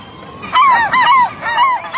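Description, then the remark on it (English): Gulls call in three loud, nasal bursts that bend up and down in pitch, clear, each squealing cry following the last in quick succession with no voices present. “Gulls, to be sure, present a kind of Sunday crossword puzzle of bird identification.”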